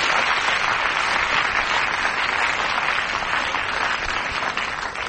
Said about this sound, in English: So he wins the capital card. Big round of applause for J.R. Hartley.